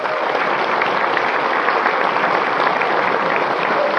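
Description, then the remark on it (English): A crowd claps steadily and loudly for about four seconds, cheering the announcement that the US opened an embassy in Cuba after 54 years: a dense, even roar of applause with possible cheering mixed in, and no speech over it. “Yesterday, also, there was an announcement that after 54 years of us antagonizing and fighting with the Cubans, we actually opened up an embassy, and we should cheer that.”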